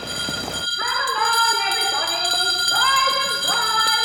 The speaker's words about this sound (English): At St. Hilda's, the matron strides to the dormitory ringing a bell.